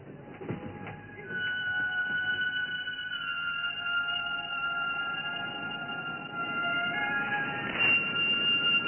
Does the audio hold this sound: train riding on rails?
yes